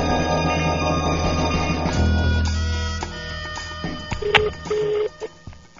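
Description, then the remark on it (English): An unusual foreign telephone ringing tone on a prank call to the Fatty Low Chicken Rice Restaurant in Penang, Malaysia: short, steady electronic tone bursts near the end, after a dense, buzzy stretch of line noise. No one speaks. “They got some weird phones.”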